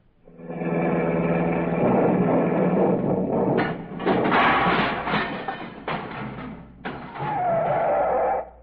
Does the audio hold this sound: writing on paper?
no